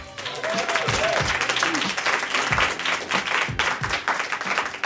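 An audience applauds steadily for several seconds as the first poet is brought up, a dense wash of clapping with a few faint voices and whoops rising beneath it.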